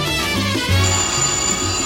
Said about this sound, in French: Le téléphone.